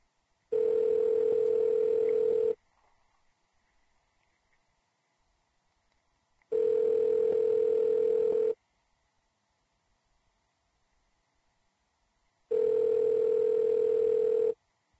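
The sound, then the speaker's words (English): An outgoing phone call ringing on the line: three steady two-second ring tones separated by long, even pauses, clear with no one speaking. “give Cobra a call”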